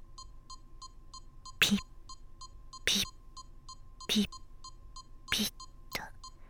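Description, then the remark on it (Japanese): A steady, monotonous electronic beeping repeats in a quick, even rhythm, about four beeps per second, while breathy whispered bursts break in every second or so. “単調なビープ音に喜ぶ魔女豚。”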